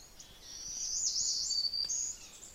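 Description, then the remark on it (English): A dense chorus of many birds, a redstart among them, singing at once in a yard on Good Harbor Hill, high bright chirps and trills overlapping into a steady wash of sound, with no talking. “Unfortunately, so did every other bird.”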